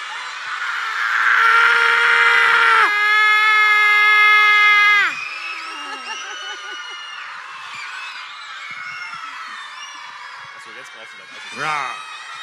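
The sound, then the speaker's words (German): A big crowd of children, as about 300 tigers opening their mouths as wide as they can, roars like tigers, a loud, sustained, high-pitched shriek for about five seconds, then fading into scattered, wavering growls and cries with one sharp squeal near the end. “Ihr habt ihn einfach nur vertrieben, aber wir wollen natürlich auch 300 Tiger sehen, die ihr Maul so weit aufsperren, wie es geht. Und dann noch ein schreckliches Geräusch rauslassen.”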